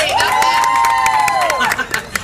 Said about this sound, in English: Good people, please help my daughter to decide. Let's do it by the sound of your applause. Should it be husband number one? Husband number two!